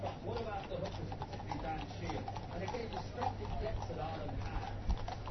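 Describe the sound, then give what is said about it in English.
Horses' hooves clip-clop steadily as riders ride horses down the middle of the Mall, a run of irregular knocks set against a constant crowd murmur and a low background hum. “So they're riding the horses.”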